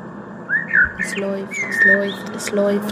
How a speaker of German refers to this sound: Das ist die Heizung. Die Heizung in diesem Haus klingt wie Krüsi. Das hat er geschafft, hat er ihr beigebracht.